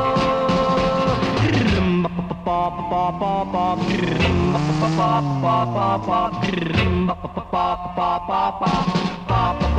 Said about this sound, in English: Yeah, yeah, yeah, yeah, yeah, motorcycle.